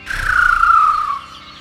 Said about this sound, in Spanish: Ese pájaro me ha hecho helar el alma. ¡Sácalo, Johnny, por favor!